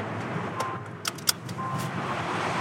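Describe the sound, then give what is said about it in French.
A rented car drives steadily along a road near Balaguer in western Catalonia, Spain, its engine and tyre noise forming a continuous rumbling hiss, with a couple of faint clicks partway through and no one speaking. “Donc j'ai pris le train, puis un deuxième train, puis loué une voiture et je suis arrivée aux alentours de Balaguer, à l'ouest de la Catalogne.”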